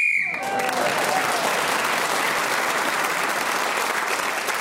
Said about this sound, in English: And we will never know because the whistle went. He was speaking at that time.